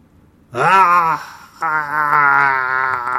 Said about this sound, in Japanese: 左耳の方から男性の低い声で叫び声が聞こえました。